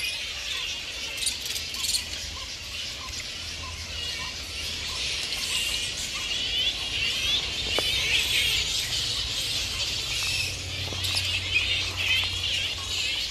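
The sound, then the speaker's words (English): A flying fox colony at the Yarraben colony and release enclosure fills the air with a dense, unbroken chorus of shrill squeaks, chitters and squabbling calls, holding at a steady level for the whole stretch with no voices. “for these sounds from the Yarraben colony and release enclosure.”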